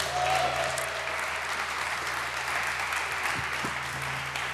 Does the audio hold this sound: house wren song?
no